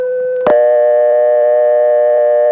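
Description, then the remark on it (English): A payphone's brief steady pre-dial tone sounds for under half a second, then a sharp click switches it to a loud, continuous dial tone that holds to the end. No voices. “In every case, this pre-dial tone, which only payphones have, is the same tone as is heard by the operator when she answers, the tone that tells her that you're calling from a coin phone.”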